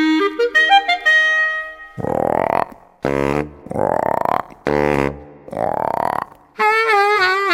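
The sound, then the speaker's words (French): A frog croaks five times in a steady rhythm, each croak a loud, low, raspy burst. A rising run of musical tones comes before them, and a wavering high tone follows. “Coasse la grenouille.”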